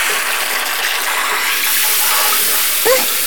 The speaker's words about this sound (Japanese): じゃ、泡を流しちゃいまーす。まだだよ。右耳のところに泡がついてるの。流しちゃって。